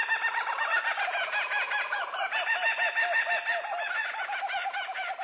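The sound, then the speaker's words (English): A loud, raucous kookaburra chorus of rapid, repeated cackling hoots that rise and fall without pause for several seconds, unaccompanied by any voices. “The bird's name, which imitates its raucous call, derives from an Australian Aboriginal language, Wiradjuri.”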